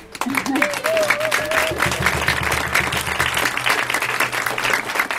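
An audience breaks into steady, dense applause that keeps going at an even loudness for several seconds, with a brief high whoop or whistle near the start.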